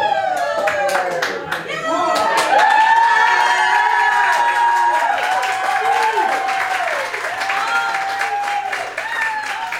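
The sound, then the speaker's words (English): A crowd at a Democratic Party watch party in Placer County erupts in loud cheering and steady applause on first hearing the results, with excited shouts and whoops rising over a dense patter of clapping that stays strong throughout before easing slightly near the end. “Here's what it sounded like when they first heard the results.”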